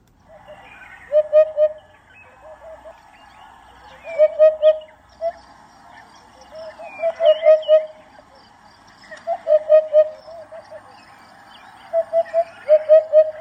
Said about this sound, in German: Die hören sich auch auf jeden Fall richtig cool an. Auch relativ exotisch, muss ich sagen. Hier ist auch nochmal der Gesang vom Wiedehopf.